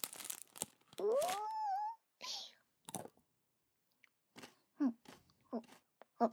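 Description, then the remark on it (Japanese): A close-up crinkle of a package of Pocchi chocolate snack sticks being opened, then several crisp crunching bites of the thin sticks, with a short hummed vocal sound partway through. “二人のお兄ちゃん眺めながら、ポッチー食べちゃう。”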